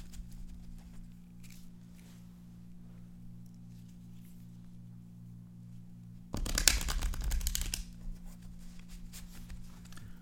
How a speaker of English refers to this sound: Shuffling the cards, some yeah. ASMR going on. All right, so for the listeners at home, I'm dealing out 9 cards in a square.